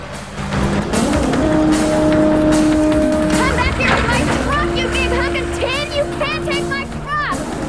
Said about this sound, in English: He inserts a metal finger into the ignition. No, don't start my truck! You know how to drive! While Stephanie tries to hang on, Number 5 puts the truck into gear and pulls away.